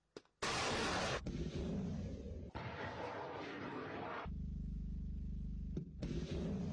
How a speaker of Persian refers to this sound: و هم اکنون شلیک موشک سامانه جوشن هم در این رزمایش قدرت نمایی.